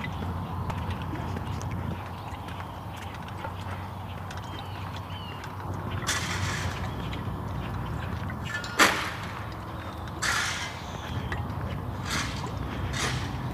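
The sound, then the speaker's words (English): A man shovels up loose stone beside his driveway: a handful of irregular scraping, crunching strokes, one sharper clank, over a steady low outdoor rumble. “Guy shuffling up all of the loose stone beside his driveway.”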